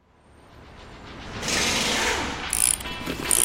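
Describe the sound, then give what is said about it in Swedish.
A ratcheting mechanism whirs as Halvan builds a car, with a dense, rapid clicking that builds steadily in loudness, punctuated by sharper bursts of clatter near the end. No one speaks. “Men idag har han ingen ny bil. Jag bygger en, tänker han.”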